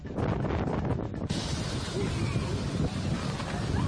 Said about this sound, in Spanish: Vientos de hasta 90 kilómetros por hora, más de 130 litros por metro cuadrado de agua, olas de hasta 4 metros de altitud. Así suena a esta hora Media España.